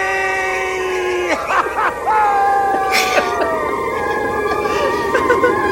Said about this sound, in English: The scream. Yeah. So the scream. I found that funny in two ways.